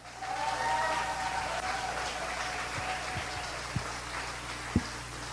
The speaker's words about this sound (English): Give the best clap offering.